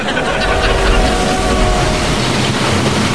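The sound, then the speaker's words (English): A steady, loud rumble of a train rolling along rails, with continuous low-end roar and a faint metallic whine running through it, unbroken for the whole stretch. “Salem, that's an Other Realm train.”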